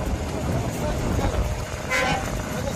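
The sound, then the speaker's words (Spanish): Horns of aid trucks carrying essential supplies toot and honk as they cross the border into Gaza through the Rafah crossing, over a steady, loud rumble of traffic noise, with one brighter, higher blast standing out near the end and murmured voices mixed into the din. “Era el momento en el que estos vehículos cruzaban la frontera.”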